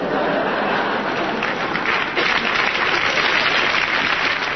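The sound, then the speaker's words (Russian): An audience breaks into steady applause in agreement, a dense wash of clapping hands that stays loud and even for several seconds with no voices on top. “Вот ваши аплодисменты, говорят, видели и согласны.”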